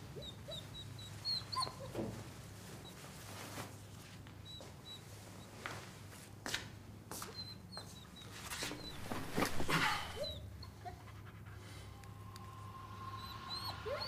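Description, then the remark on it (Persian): A small dog whimpers with short, high-pitched whines scattered through the scene as a man takes it from a girl, mixed with soft rustling and a few sharp clicks over a steady low background hum. “امیر سگ رو از دختر میگیره.”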